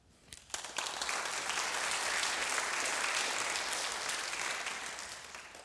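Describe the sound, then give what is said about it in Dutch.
A crowd at a service bursts into sustained applause for everyone who helped with the service, after a couple of scattered opening claps, the dense clapping holding steady and loud for several seconds before easing slightly at the end. “Applaus is voor u allemaal die heeft meegewerkt.”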